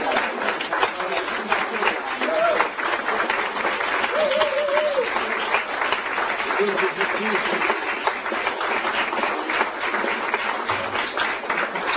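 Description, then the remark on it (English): Sustained audience applause for the performers at a first-year contest, a dense crackle of many hands clapping steadily for about twelve seconds, with a few brief whoops and cheers rising above the clapping. “can we have a big applause for our prosecutors when we leave now?”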